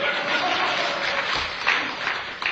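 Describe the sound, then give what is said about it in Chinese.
Steady applause from an audience, cued by the performer after a few sung lines, fills the whole moment: a dense patter of many hands clapping at once, fairly loud and continuous, with no voices over it. “可以鼓掌了啊！”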